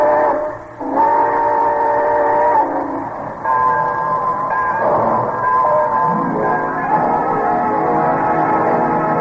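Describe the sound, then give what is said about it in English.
The Railroad Hour radio show's summer show train pulls out: its whistle sounds in long, sustained chords over a steady rumble of rolling rail noise, loud throughout, with the pitch shifting midway as the train gets underway. No one speaks. “Well, it looks as though we're ready to pull out.”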